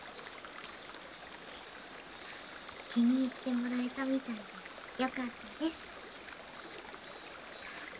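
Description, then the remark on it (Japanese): A river stream flows steadily with a continuous, soft rushing wash of water, while a woman speaks briefly and quietly over it midway through. “川の音って涼しげで素敵ですよね。”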